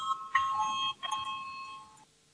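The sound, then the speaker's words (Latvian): An electric voting bell in a parliament rings before a vote on a legal committee proposal, a steady, buzzing tone for about two seconds, briefly faltering once before cutting off abruptly. Faint room murmur sits underneath, with no clear speech. “Lūdzu zvanu, balsosim par 15. Juridiskās komisijas priekšlikumu.”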